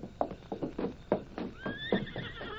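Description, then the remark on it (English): A horse waiting at a ready stagecoach whinnies with a rising, shrill call while hooves clop in a steady rhythm, the animal noises heard alone without any talking. “The stage is all ready and the horses are waiting.”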